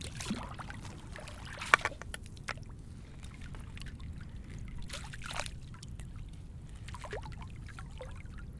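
Water is sloshed into big waves, surging and splashing, a broad wet churning noise with sharp little splats and drips, fairly steady throughout, no voices.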